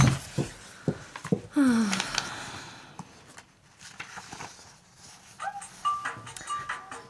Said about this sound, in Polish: Nieznośny sygnał. Gdzież jest ten jej telefon?